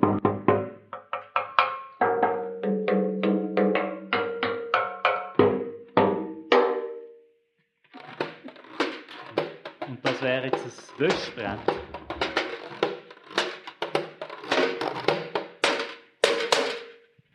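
Rhythmic drumming on old metal cookie tins (Gutzli-Büchse), each strike ringing with a hollow, pitched clang; after a brief pause the beating returns faster and busier with sharper, brighter hits.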